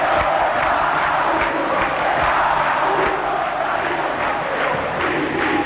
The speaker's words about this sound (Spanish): Con este grito y este festejo. Con este coro que retumba. Olimpia para ser campeón.